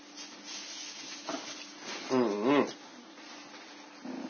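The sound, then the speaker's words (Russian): A dog gives two quick, tense, nervous barks close together, fairly loud against a steady hiss of background noise, with a few faint muffled sounds around them. “Ну, а что у вас собака такая нервная? Чужих ходит в последнее время много.”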